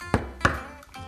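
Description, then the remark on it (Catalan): Knocking on the closed door of a shop on Carrer Rocafort in Barcelona: two solid, hollow knocks spaced apart, followed by a softer third tap, with a low resonant ring lingering between them and no voices. “A veure si obro la porta, trucaré, que està tancat.”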